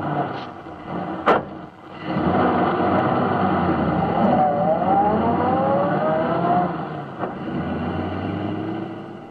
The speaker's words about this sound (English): But today, by using a recording of a moving automobile, it sounded thusly.